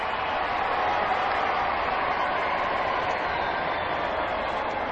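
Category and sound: crowd, crowd cheering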